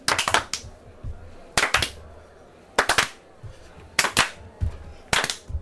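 An audience in Apače claps in sharp, loud rhythmic bursts, five quick clusters of three or four claps each, spaced about a second apart, with quiet murmuring between them.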